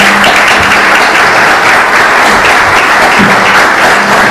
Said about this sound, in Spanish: agradeciéndole su presencia y pidiéndole un aplauso para él.